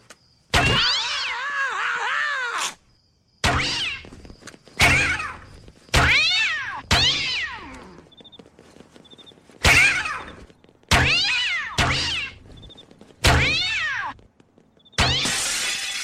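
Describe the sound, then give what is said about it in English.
Cats fired from a cat launcher at a pizza delivery man by Adam West's character in Family Guy give a rapid series of about nine loud, drawn-out meows and yowls, one after another with brief gaps, strident, with no talking. “Pizza delivery man, prepare to meet your maker at the hands of my cat launcher.”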